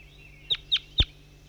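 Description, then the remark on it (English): A bird, identified as bird 5-3, gives three short, sharp calls in quick succession, each a bright high-pitched note, with the last one loudest and fullest, over a faint steady background hum. “This is bird 5-3 calling.”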